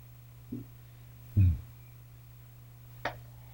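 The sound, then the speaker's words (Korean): Three sharp gunshot cracks from poachers hunting elephants for their ivory ring out at uneven intervals, the second the loudest and boomiest, over a steady low background hum. “자, 청소리가 빵 났어요.”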